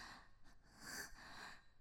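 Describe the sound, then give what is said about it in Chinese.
Heavy, breathy panting from a single person, a couple of quick gasping breaths running together in an uneven rhythm, fairly soft and with no talking. “你只能听到我的喘息声吗？”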